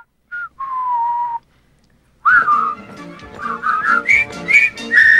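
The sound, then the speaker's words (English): A single whistled note sounds briefly, then after a short pause several people join in whistling a melody together, overlapping and fairly loud, the tune rising as it goes. “Andrew and Claire also join in.”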